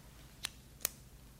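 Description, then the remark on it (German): A flashlight switch clicks twice, two sharp, bright snaps less than half a second apart over a quiet, low background hum, with no voices, as someone switches on a lamp inside an unfinished house. “Knips mal deine Lampe an”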